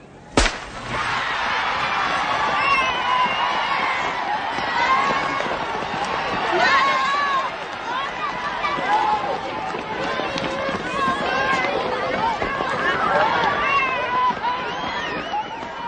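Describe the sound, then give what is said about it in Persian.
A sharp crack rings out at the start, then a group of children running a 4-kilometre race around a lake make a steady patter of footsteps beneath loud, continuous excited shouting and chatter, staying busy throughout. “بچه‌ها در حال دویدن.”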